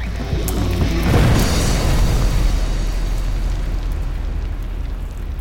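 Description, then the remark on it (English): A single heavy blast of ignited dynamite and powder goes off about a second in, followed by a deep, rolling rumble that lingers and slowly fades as it echoes off canyon walls. No one speaks. “He had ignited the dynamite and the powder. And the explosion just reverberated through that canyon.”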